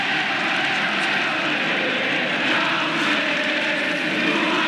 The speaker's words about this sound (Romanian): La scurt timp după aceea, soții Ceaușescu au părăsit clădirea Comitetului Central cu un elicopter.